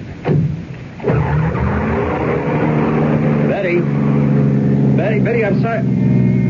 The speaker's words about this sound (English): Now, that was her pulling away in a cloud of dust.